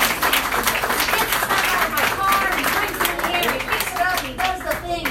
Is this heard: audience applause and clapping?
yes